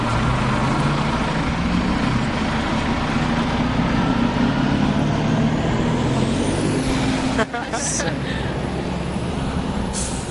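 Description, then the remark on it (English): A bus in Santa Cruz rumbles loudly, its heavy engine droning steadily, with a brief hiss like an air brake near the end. Faint voices may sit under the noise. “So that bus made me think about how do you all get around in Santa Cruz, and what's transportation like?”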